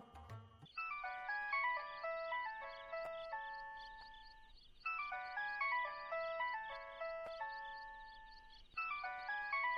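signal or alarm, mobile phone ringing

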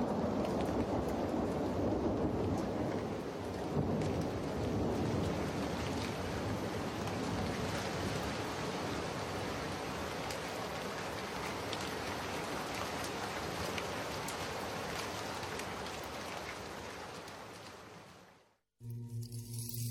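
nature, rain and thunder

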